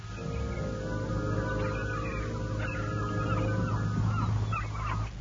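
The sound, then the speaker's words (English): Several seagulls screech and cry in overlapping bursts over a steady low drone, the calls continuing throughout at a fairly loud level with no one speaking. “And then there were the screeching seagulls.”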